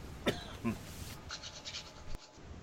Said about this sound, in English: Okay, I got a cough, so I tried muting the mic, and it worked, and then it didn't work